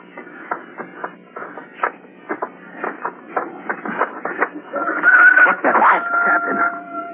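bird, rooster crowing

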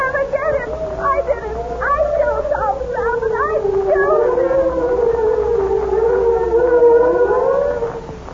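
vehicle, police siren

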